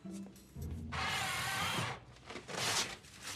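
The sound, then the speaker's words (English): An automatic paper towel dispenser in a restroom, set off by a woman waving her hand over its sensor, whirs in a loud, steady burst of about a second, followed by a second, rougher stretch of whirring and rustling as paper feeds out. No one speaks. “The pink-clad woman crosses to the paper towel dispenser and waves her hand over its sensor.”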